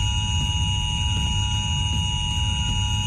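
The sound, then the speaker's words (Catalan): A mobile phone emergency alert tone for a civil protection drill in the Barcelona area blares without a break, a loud, harsh electronic tone holding one steady pitch with shrill overtones and a low rumble underneath, and no voices. “Aquest és el so que emetran els telèfons.”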